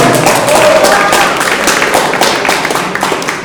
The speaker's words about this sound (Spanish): Un aplauso.